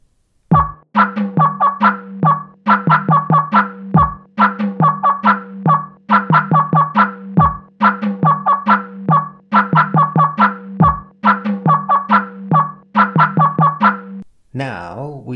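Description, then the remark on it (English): Two female turkeys squeak and purr in a steady, busy stream of short repeated calls, fairly loud, with a rough trilling note near the end. “Girl turkeys make squeaks.”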